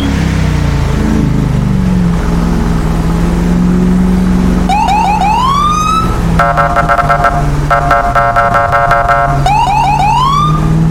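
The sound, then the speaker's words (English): A loud emergency vehicle siren cycles over a steady engine rumble, alternating rapid rising whoops with a pulsing, harmonic wail, repeating several times without any talking. “More vehicles. Dang it, come on, bro. Pull the car over already.”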